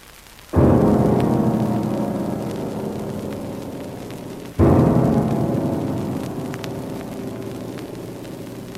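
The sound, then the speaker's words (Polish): Two heavy cannon shots about four seconds apart, each a sudden loud boom followed by a long rolling rumble that slowly fades. No voices are heard. “Armat ognia.”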